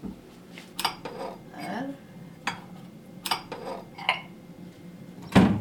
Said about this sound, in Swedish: Men då är drinken eller smoothien färdig. Mm. Och hälla upp. Ja, vi tar ett varsitt glas.